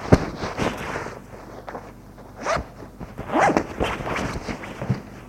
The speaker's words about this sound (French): Il entend ce cousin se déshabiller.